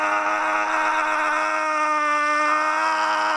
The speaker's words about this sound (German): Ja, und ich muss sagen, das Schreien hat wirklich gut getan, mal so richtig Druck ablassen.